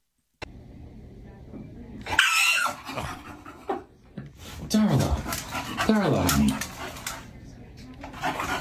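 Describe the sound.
A dog at the vet's, looking at a door with people behind it, barks and yips excitedly in several sharp bursts, with rough whining and growly noise in between, while a person calls out over it.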